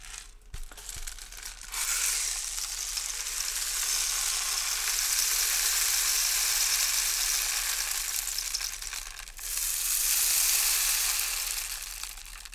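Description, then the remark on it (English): A rainstick that belonged to a percussionist pours out a steady, bright rush of trickling, pattering grains that lasts several seconds, pauses briefly, then swells back for a second cascade. No one speaks over it. “The rain stick you here.”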